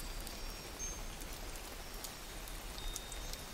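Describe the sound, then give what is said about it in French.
Soft, steady warm rain falls continuously outdoors onto nature, a gentle even patter with occasional brighter drops ticking, quiet and unbroken by any voices. “Écoutez la pluie, elle est douce, régulière, envoûtante.”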